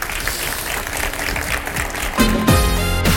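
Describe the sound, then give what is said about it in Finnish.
An audience claps steadily for about two seconds for guest Marko Anttila on Radio Nova's Sunday brunch show, a dense, even patter of many hands, before a short musical jingle with a swooping tone cuts in over the end. “Hei, isot taputukset Marko Anttilalle.”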